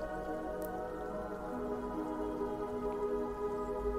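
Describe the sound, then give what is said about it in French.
Water lapping and trickling over rocks in a river, a steady babble of small splashes and drips with no voices. “Percevez la fraîcheur émanant de la rivière, mais aussi le clapotis de l'eau sur les rochers.”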